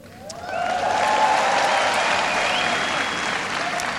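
crowd cheering and applauding

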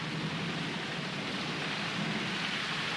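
heavy rain pouring

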